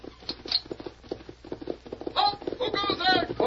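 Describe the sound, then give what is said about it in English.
Horses approaching at a gallop before dawn, their hooves drumming in a rapid, steady rhythm, then joined by loud, strained tonal calls over the continuing hoofbeats. “Lieutenant, there are your horses. They're coming at the gallop.”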